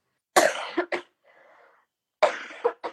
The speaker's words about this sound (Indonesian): Sorry, aku lagi batuk.